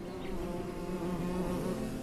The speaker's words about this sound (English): You're not gonna believe this. I'm surrounded by the bees. I think they're trying to say something.